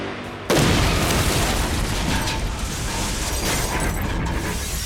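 bomb explosion

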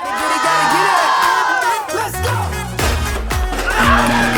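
crowd cheering

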